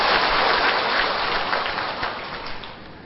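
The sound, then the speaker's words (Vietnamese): A big round of applause from an audience at a Buddhist teaching session, inviting the teacher to speak: dense steady clapping for a few seconds that then begins to ease off slightly, with no voices over it. “Vâng, kính thưa đại chúng, để biết được ý nghĩa của những hình tượng vừa nêu trên, kính mời đại chúng cho một tràng pháo tay thật lớn để tôn thỉnh dạng sư chỉ dạy.”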